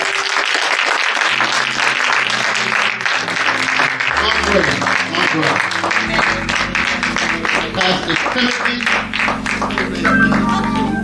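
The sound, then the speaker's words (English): An audience applauds to welcome a young man, with steady, dense clapping that carries on loudly for about eleven seconds, over low sustained musical tones, with a few voices mixed into the noise. “But I want you to put your hands together and welcome this young man.”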